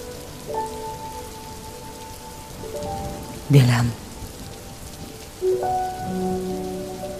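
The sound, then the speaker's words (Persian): Steady rain patters on a hard surface throughout, a soft continuous hiss with a few sustained tonal notes drifting in and a short louder splash or gust near the middle. “دلم اندکی مرگ میخواهم. باران”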